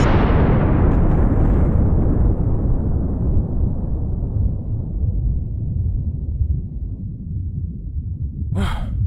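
nuclear explosion

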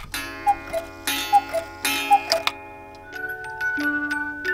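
clocks ticking

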